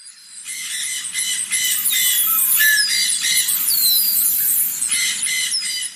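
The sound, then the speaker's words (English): A lively chorus of tropical birds calling, with harsh repeated squawks and squeals overlapping bright rising whistles, fairly loud and continuous throughout, with no voices. “Are you seeing or hearing less colourful birds than usual?”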